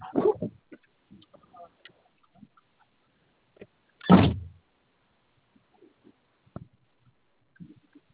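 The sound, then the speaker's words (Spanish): A car's other door opens with one solid thunk midway through, surrounded by a few faint clicks and rustles in otherwise quiet surroundings. “O, bueno, ¿sí abriste la otra puerta, compañero?”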